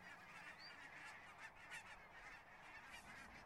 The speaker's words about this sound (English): Honking geese, I picture skies over inns. Since geese migrate every year, they're considered prolific travelers.